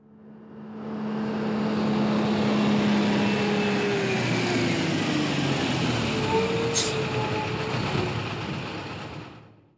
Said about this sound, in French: Et ce mercredi de septembre, tous les habitants regardent un camion noir. Il s'arrête devant la mairie.